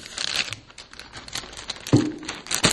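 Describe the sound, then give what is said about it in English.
Dry crinkling and rustling of paper as people take pieces of paper to write on, a steady scatter of small crackles with a couple of louder crunches near the end, no voices. “I want you all to take a piece of paper and a pen, and I want you to write the name of one person that you want to be saved.”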